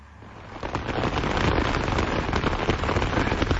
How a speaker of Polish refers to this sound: Na parasol. Bardzo dobrze. Pada na parasol. Na pewno na jakiś napięty materiał.